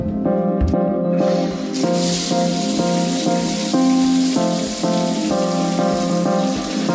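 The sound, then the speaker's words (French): A shower turns on after about a second and runs as a steady, loud hiss of spraying cold water, with a sustained tonal hum or music underneath and no one speaking. “sous la douche.”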